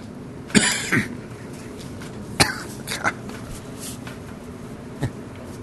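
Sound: cough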